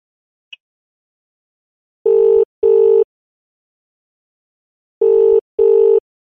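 A phone's outgoing ringing tone plays two loud, steady double buzzes, each pair a couple of seconds apart, preceded by a faint click, with no one talking.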